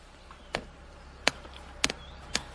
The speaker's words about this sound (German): Jetzt brennt da hinten noch unser Feuer. Ich würde mal kurz ein bisschen euch noch mitnehmen zum Feuer, dass ihr das vielleicht jetzt noch ein bisschen besser hört als eben. Jetzt ist jetzt hier die Pushbox. Da brennt unser Feuer. Hören wir mal rein.